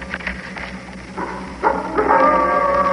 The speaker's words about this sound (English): The wolf. The wolf.